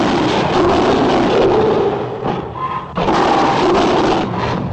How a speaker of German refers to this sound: Zusammengemischt hatte man Tiger- und Löwengebrüll und es rückwärts abgespielt.